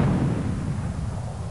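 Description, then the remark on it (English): A loud cannon-fire sound effect used as a segment theme, a deep booming blast that rolls on as a heavy, sustained low rumble, forceful, with no voices. “Cannon or cannon?”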